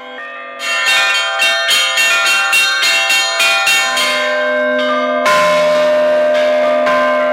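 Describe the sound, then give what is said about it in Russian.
Church bells of a newly consecrated church and parish school in Ukraine, rung by visitors at the consecration, ring out in a rapid chime: a dozen quick overlapping strikes with long ringing tones, then a deeper bell joins and the peal swells. Loud, no voices. “Возможность позвонить в колокола дали каждому желающему.”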